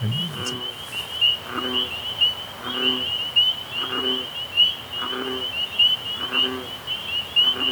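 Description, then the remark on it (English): A steady high-pitched chorus of spring peepers rings continuously at a pond on June 6th while deeper, throaty bullfrog calls repeat in a regular rhythm underneath, roughly one every second, in an outdoor night setting. “Just the difference in frequency there, like a little peeper having that high squeaky versus the deep baritone of the bullfrog, everything to do with body size and the thickness of the vocal cords.”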